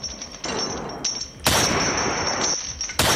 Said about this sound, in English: Oh, what was that? Oh God! That sounds like a spectral intruder. I'm gonna fire my gun into the blackness of the room. Shoot your gun a bunch more. That seems to be working.